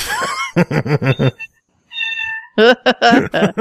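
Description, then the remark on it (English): A cat meows loudly, a quick run of short, choppy calls, a brief pause, one longer drawn-out meow, then another burst of rapid meows; the cat is sitting on a heating pad. “Kitty? Hi. Hello, Rafe. Kitty. Chair kitty.”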